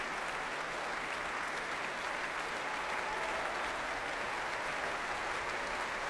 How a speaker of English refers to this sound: John Sturgard's returning to the stage now, applauding the BBC Philharmonic and bringing them to their feet, but they refuse in his honour. And now they rise to their feet with him.